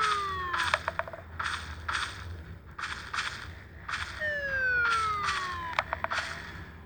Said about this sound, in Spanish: Ese ruido es una motosierra.